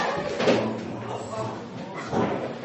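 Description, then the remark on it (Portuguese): A chair gives way with a heavy thud and cracking impact near the start, followed by a second clattering knock a moment later, with people's voices murmuring around it. “Acho que quebrou a cadeira.”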